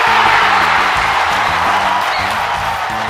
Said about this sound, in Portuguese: É, essa, eu vou pedir uma salva de palmas aqui.